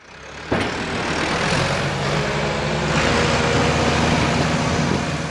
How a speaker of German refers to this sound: Auf einem öffentlichen Parkplatz in Freiburg räumt ein Mann die Schneemassen mit einem Traktor weg. Es ist ein Traktor, ja, agricole, avec une la manière, ouais. Ouais, on a 30 et 40 places à faire pour déneigement, donc il y a de quoi s'occuper